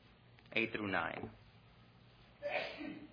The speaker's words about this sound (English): Bless you.